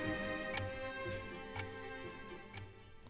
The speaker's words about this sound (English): You saw Spassky make his move, then he touched his clock, which turns his clock off, but turns his opponent's clock on. So Fisher's time is now ticking.